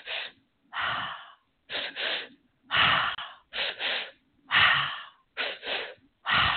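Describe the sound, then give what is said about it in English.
A series of about eight quick, hissy in-breaths drawn through pursed lips as a sipping breathing exercise, as if sipping hot soup from a spoon, fairly loud, coming in short bursts, sometimes in pairs, separated by brief pauses. No talking. “Then there's a sipping breath. Imagining you're sipping a soup spoon of hot soup.”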